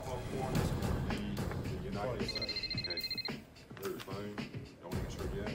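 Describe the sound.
A telephone rings with a short burst of rapid, high trilling electronic tones lasting about a second, heard over a busy background with voices and other sounds.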